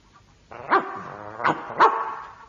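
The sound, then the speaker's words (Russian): A dog barks three times, the sharp barks spaced unevenly over about a second, with a steady tonal drone continuing underneath. “А слышал я, будто ты хвастала, что по собачьи понимаешь.”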